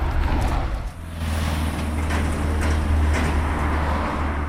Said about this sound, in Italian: Comme là, il y a l'herbe qui nous gêne, les fils électriques et tout, on reprend la voiture, on va s'approcher du chantier de la Fondation Luma.